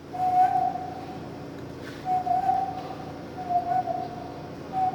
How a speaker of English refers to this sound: an orangutan at the National Zoo in Washington, D.C., has an unusual skill. She can whistle.